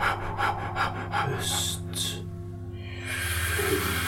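Slow, deep breathing during a breathing exercise: a long airy inhale followed by a drawn-out exhale, fairly soft, over a steady low humming drone.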